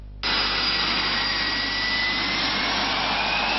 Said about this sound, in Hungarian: Dübörgő hajtóművek, testközelből megismerhető vasmadarak, látványos bemutatók. A repülés szerelmesei nem csalódhatnak Kecskeméten.